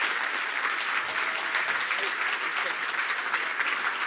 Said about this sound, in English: All right, let's give him a big round of applause.